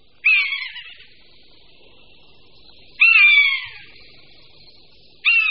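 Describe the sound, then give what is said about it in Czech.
A common buzzard's mewing calls ring out three times, each a loud, drawn-out descending scream that trails off, with a quieter background hum between calls and no talking. “Podle druhového jména káně lesní bychom mohli předpokládat, že káně se vyskytuje jenom v lese.”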